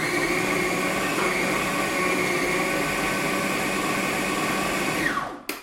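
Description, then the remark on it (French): A food processor runs at full speed, a loud steady motor whir grinding ham and meat pieces for about five seconds, then the pitch drops as the motor winds down and stops with a soft clunk. “Coupez le jambon, payez les poils de veau en morceaux, passez-les au hachoir à viande, au robot mixeur.”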